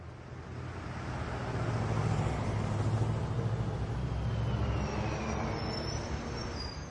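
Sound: bus arriving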